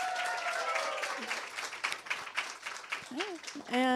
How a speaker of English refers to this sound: Clap if you are a listener of the Bechdel cast.